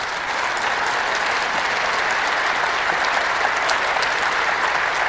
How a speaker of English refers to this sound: Warm applause, actually. Almost like, you know, they needed to hear that. And again, he's making his way around the room. We just have a couple seconds of this. So, warm applause.